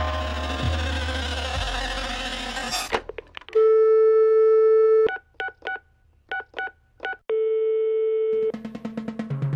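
A steady telephone line tone, then a quick run of short dialing beeps, another sustained tone, and a rapid pulsing ring, all clear after a brief burst of noise.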